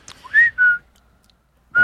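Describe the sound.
Men whistle a short cartoon theme tune: three clear, bright notes, two close together, then a pause before the third, fairly loud.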